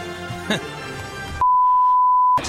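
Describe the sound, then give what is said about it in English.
A loud, steady censor bleep, a single pure tone lasting about a second, abruptly cuts off a broadcast voice to cover a product mention in a Super Bowl segment with Shaquille O'Neal, then gives way as the sound resumes. “When they did that beep, there was a product mention.”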